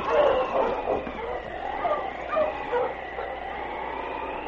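Sergeant Preston's team of husky sled dogs, with King, yips and barks excitedly as they move on through a snowstorm toward 40 Mile, overlapping calls and whines tumbling over one another steadily for several seconds, with a thin, muffled old-recording tone.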